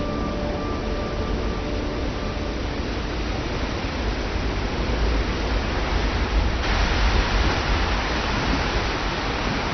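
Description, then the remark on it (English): A tall waterfall, dropping unbroken for almost 1,000 meters into the Devil's Canyon and blown away as fine mist before reaching the base, roars in a steady, dense wash of rushing noise that never lets up, growing slightly fuller and brighter toward the end, with no voices. “Such is the height of these falls that long before the water reaches the base in the Devil's Canyon, it's blown away as a fine mist.”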